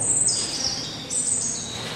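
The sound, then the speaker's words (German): High, shrill whistled tones sustain and slide like birdsong, human voices imitating bird calls in a multichannel video installation by British artist Marcus Coates, with a brief break midway and a soft, steady background beneath. “Was wie computergenerierte Vogelstimmen klingt, kommt aus den Mündern von Menschen.”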